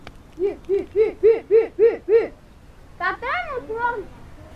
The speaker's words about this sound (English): The boy whistles to the birds.